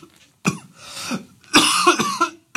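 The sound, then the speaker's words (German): A person coughs hard several times in close succession, loud, with harsh, raspy bursts and brief gasping breaths between them; no talking. “Oh, das schneide ich nicht raus, damit die Leute dein rotgesichtiges Husten leiden.”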